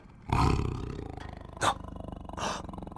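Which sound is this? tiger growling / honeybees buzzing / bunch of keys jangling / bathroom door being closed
tiger growling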